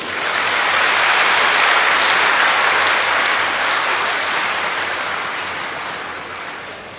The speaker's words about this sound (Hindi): बहुत अच्छा, अपने लिए ही ताली बजाएं।